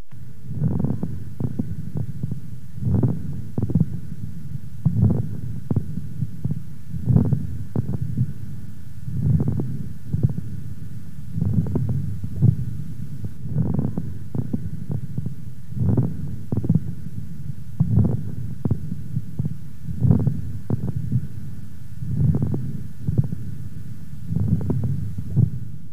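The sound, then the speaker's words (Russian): Stethoscope chest recording of a female patient with acute bronchopneumonia: harsh breathing with fine, moist bubbling crackles (fine-bubbling moist rales), over a steady low rhythm of muffled thumps that repeats for the whole stretch, with no voices. “Прослушайте влажные мелкопузырчатые хрипы у больной с острой бронхопневмонией. Основной дыхательный шум представлен жестким дыханием.”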